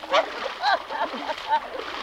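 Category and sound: household object, water splashing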